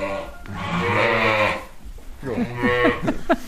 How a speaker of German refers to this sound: Aus dem Stall höre ich ein Blöken.